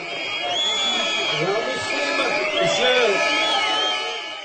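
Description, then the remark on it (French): A crowd of trade union protesters opposing the Czech public health system reform whistles and shouts as Health Minister Leos Heger arrives at Palatsky Square on Tuesday midday, with shrill, wavering whistle tones rising and falling above a steady, dense roar of many raised voices throughout. “C'est sous les sifflets et les cris des manifestants, visiblement mécontents, que le ministre de la Santé, Leos Heger, s'est présenté place Palatsky mardi midi.”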